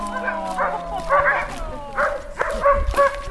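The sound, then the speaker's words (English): Several sled dogs bark and yip in quick, overlapping bursts, fairly loud, their high, excited cries repeating about every half second with a low hum beneath. “The dogs get quite a bit of attention in the summer from adoring tourists.”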